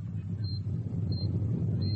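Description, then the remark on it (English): A deep, continuous earthquake rumble fills the low end, steady and heavy throughout, with faint high-pitched beeps repeating about three times in the background. “Another quake. Sounds like it.”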